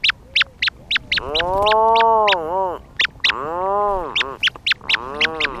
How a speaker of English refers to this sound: What are those curious sounds? They're the calls of a small gray seabird, a rhinoceros auklet with its chick, deep in a burrow on Washington State's Protection Island. They were recorded during the small hours of a summer night.